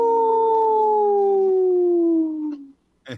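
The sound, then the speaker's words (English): A single long wolf howl, a steady tone that slowly slides lower over about two and a half seconds before fading. A short noisy burst follows right at the end. “This portion of the show is supported by Howling for Wolves, protecting wolves for future generations. Howl! Howl!”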